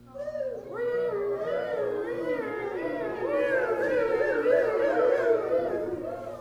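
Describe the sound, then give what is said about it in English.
A voice imitates a police siren with a continuous wavering wail that rises and falls for several seconds, steady, with no other talking. “How about some city sounds, like a police siren?”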